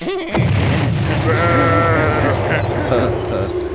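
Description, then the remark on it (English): A sheep with TNT inside bleats loudly with a shaky, wavering cry as it is exploded, rising over a dense, rumbling wash of noise that bursts in abruptly at the start and stays loud throughout. “They go sis boom bop. Exploding sheep.”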